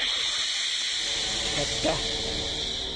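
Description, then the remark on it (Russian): A snake's skin rustles as it slithers, a steady, breathy hiss that runs throughout with a brief swell of scraping partway through. “Это шуршит змеиная кожа, или Нак, или Нагайна.”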